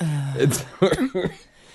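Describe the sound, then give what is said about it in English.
Someone imitates a nasty, rasping cough: a strained voiced grunt followed by two or three harsh, hacking bursts in quick succession. “That's I like that during this, I'm illustrating this really terrible sounding cough.”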